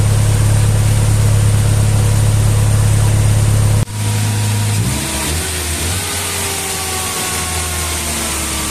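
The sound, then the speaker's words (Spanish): A car engine, just started and being tested without its thermostat after its parts were cleaned, idles steadily at a slightly raised, fast rate and does not run optimally. It is loud, with a brief dip in pitch partway through before settling into a lower, uneven hum. No one speaks. “Se observa al momento de encender el vehículo que está un poquito acelerado y su funcionamiento no es el óptimo.”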